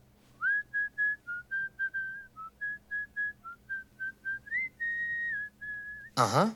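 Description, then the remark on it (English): A woman whistles a tune alone, a series of short clear notes followed by a longer held note, ending with an abrupt loud burst of noise. “Plus, I heard her whistling the same song I heard the killer whistle.”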